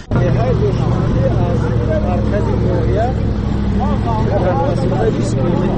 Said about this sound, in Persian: حالا همراه با گروه ساکنان این روستاها در ماشین کلان باربر حرکت داریم و این مردان بار میکشنند به خانه های خود تا زندگی خودشان را تأمین کنند.